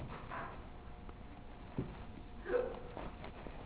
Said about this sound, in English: Bless you.